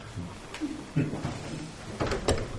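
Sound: door being opened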